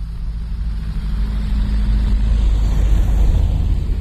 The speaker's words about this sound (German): Das war das erste Auto seit einer halben Stunde. Auf der L293 zwischen Biesenthal und Eberswalde.